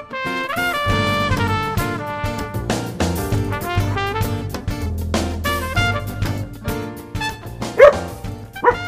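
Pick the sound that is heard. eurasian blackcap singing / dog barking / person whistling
dog barking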